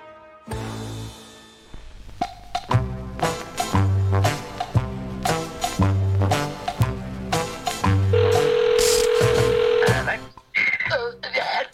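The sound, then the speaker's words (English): A telephone is dialed for a prank phone call to a resident at number 4 in the flats at Erskine Court. A quick series of beeps plays over steady rhythmic low thumps, followed by a sustained ringing tone, with a brief burst of other sounds at the end. “Sadly, Barry has done a prank phone call on Mr. Rawlings at number 4, pretending to be someone from the Blocks Management Company.”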